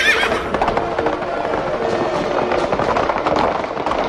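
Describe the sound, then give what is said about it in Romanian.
A horse whinnies sharply at the start, followed by a steady, busy clatter of hooves on hard ground as it sets off for a hunt, loud throughout, with no one talking. “Pe un cal mai blând, ca să nu-l zguduie. Și haide-mi înainte la vânătoare, da.”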